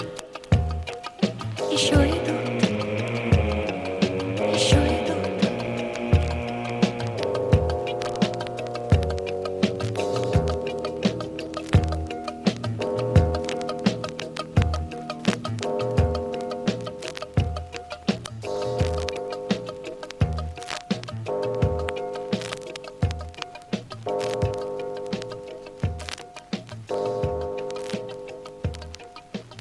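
A pop song's closing bars with sustained melodic instruments, while a steady clock tick-tock keeps a regular beat through the music to the end.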